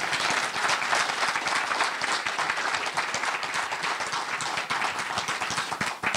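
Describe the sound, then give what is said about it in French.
An audience applauds steadily to welcome lecturer Mathieu Boccoté before his talk on political engagement, many hands clapping in a dense, continuous patter that stays loud and even throughout, with no voices rising above it. “S'il vous plaît, applaudissez M.”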